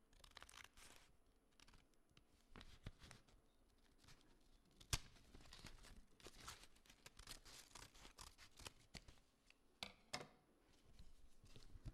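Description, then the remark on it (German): Scissors cut through folded paper, with irregular crisp snips and soft rustling and crinkling in between, one sharp snap standing out midway. No one speaks. “Und dann nahm er die Schere und schnitt.”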